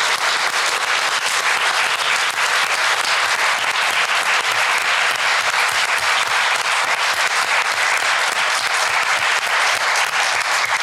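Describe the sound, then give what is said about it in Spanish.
Sustained applause from an audience for the people behind the approval of the Ley Olimpia, especially Olimpia Coral Melo, a dense, steady wash of many hands clapping at an even loudness for about eleven seconds, with no voices standing out. “Para toda la gente que tuvo que ver con la aprobación de la Ley Olimpia, pero especialmente para Olimpia Coral Melo, creo que mandamos un aplauso con mucho amor y reconocimiento.”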